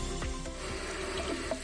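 Water runs steadily from a tap, a continuous splashing gush with small bubbling variations and no voices.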